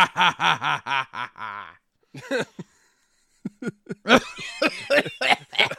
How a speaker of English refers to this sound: Let me go ahead and do the, I didn't mean to do Vincent Price. That was just me coughing and laughing.